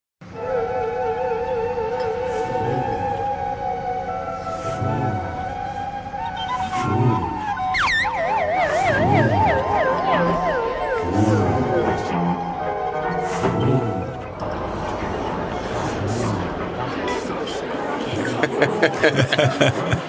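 An experimental rock band recording with warbling, siren-like tones gliding over a steady low thumping pulse, layered and constantly loud, growing busier and harsher toward the end.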